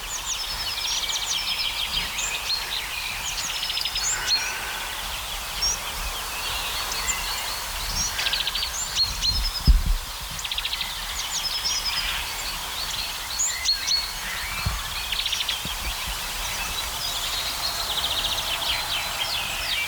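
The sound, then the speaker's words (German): A great tit singing amid a busy chorus of other birds, its bright, high chirps and calls repeating steadily throughout, with a low rumble of background noise and no voices. “Oder auch Kohlmeise genannt.”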